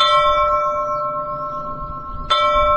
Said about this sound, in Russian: Есть колокола с глухим, я бы сказал, даже шипящим, как бы это странно ни звучало, но вот колокола порой дают самые удивительные тембры.